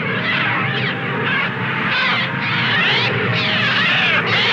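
A dense, unbroken wall of harsh, screeching bird cries, loud, with overlapping shrill calls swelling and dipping in an eerie, synthetic-sounding chorus and no voices; artificial bird sounds made for a film soundtrack.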